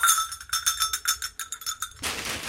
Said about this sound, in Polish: że fajne by były takie dzwonki prawdziwe z gór.